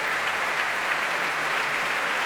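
Sustained applause from a large crowd at the Royal Albert Hall after a technically difficult piece with cadenzas by Fritz Kreisler, performed by Hilary Hahn with conductor Paavo Järvi and orchestra; a dense, steady roar of many hands clapping at once with no pauses and no voices rising above it.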